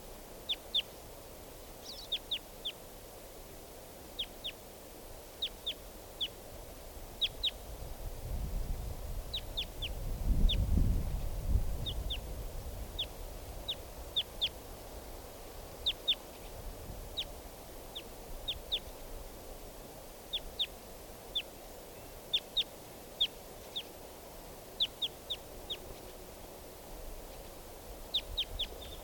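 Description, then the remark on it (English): Wild birds call again and again in short, high chirps and double notes scattered across the whole stretch, as type 4 birds fly over and a type 2 bird sits nearby. A low rumble swells briefly in the middle, and no one speaks. “Type 4 birds just flew over. And this type 2 bird is just still sitting here.”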